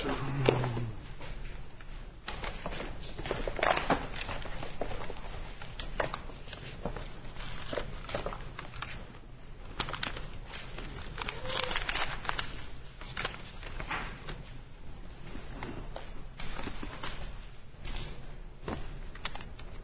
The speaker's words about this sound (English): Have a lot of paper to shuffle here.